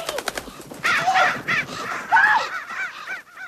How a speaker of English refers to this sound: In a freshly tilled garden, she finds black crows pecking at the soil. She chases them off, flailing her arms.